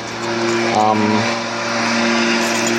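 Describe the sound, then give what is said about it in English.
A leaf blower runs across the street, a steady, loud motor drone with a buzzing, tonal whine that wavers slightly in pitch and never lets up. “And for absolutely no reason whatsoever, there's a leaf blower across the street.”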